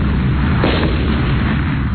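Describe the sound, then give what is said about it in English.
Several heavy explosions rumble and boom in quick succession, loud and dense with deep low-end roar and a sharper burst near the middle, no voices present. “All right, how about the sounds of multiple explosions?”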